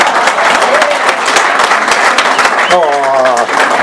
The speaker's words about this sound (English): Yeah, give those women an applause. Come on, guys. They're beautiful.